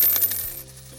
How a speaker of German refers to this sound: Und so, wenn Münzen fallen.